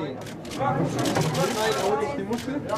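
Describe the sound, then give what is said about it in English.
Rapid camera shutters click in bursts over a steady murmur of gathered media at a German aquarium, as an octopus slowly flops into a plastic box to make a World Cup prediction; the busy chatter fills the background throughout. “It's the clicking of camera shutters, the excited murmur of the gathered media, as an octopus slowly flops into a plastic box.”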